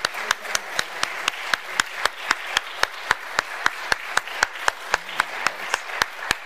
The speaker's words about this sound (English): So I know you're tired of clapping, but I'm going to ask all of you that performed tonight, if you just stand up one more time, turn around, let us give you one more big round of applause.